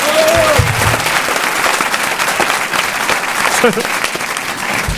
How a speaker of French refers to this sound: Prix Télépoche récompensant, mesdames et messieurs, vous pouvez l'applaudir, le meilleur acteur de film de comédie de l'année 2008. Bravo.